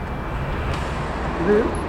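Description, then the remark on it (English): Steady low engine rumble of two city buses pulling up at a street stop across from a convenience store and a liquor shop, early morning before sunrise, streets mostly empty; a broad continuous roar with a brief higher whine near the end. “The streets are mostly empty as we wait for the bus across from a convenience store and a liquor shop. It's two of them coming.”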